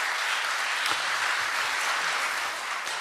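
Steady audience applause for an actress's performance fills the whole stretch, a dense wash of many hands clapping at once, fairly loud, with no break or fade.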